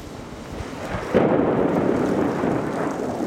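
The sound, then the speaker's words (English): A loud thunder clap bursts in just after a second and rolls on as a deep, sustained rumble over steady rain falling from a dark, cloudy sky at a baseball ballpark in Springdale, with no voices present. “As rain fell from a dark and cloudy sky, thunder clapped overhead, and lightning struck an area outside the stadium”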